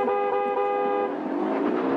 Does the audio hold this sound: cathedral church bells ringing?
no